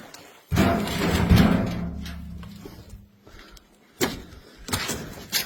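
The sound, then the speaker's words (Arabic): A heavy door leading onto the right-hand veranda scrapes open with a low grinding rumble lasting a couple of seconds, then a sharp bang and a second knock as it swings shut, with no talking. “هنا الباب الداخل على البرند اليمين”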